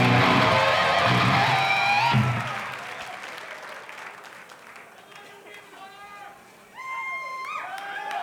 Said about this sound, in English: Thank you so much for coming back and supporting us and these other bands on this tour. We really appreciate it. Give yourselves a round of applause right now.